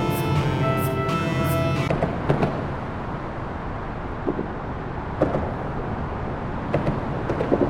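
A steady low roar of city traffic under the viaduct in downtown Seattle echoes overhead, with a droning engine tone early on and scattered thumps and clanks from passing vehicles; no one speaks.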